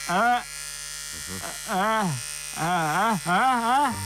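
An electric razor buzzes in four short bursts, its harmonic drone wavering up and down in pitch with brief quiet gaps in between.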